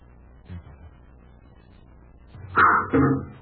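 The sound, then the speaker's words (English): Arrows shot from a bow thud sharply into a tree: two loud impacts about half a second apart, following near-silence and a faint soft tap earlier on. “Commander, it's an arrow.”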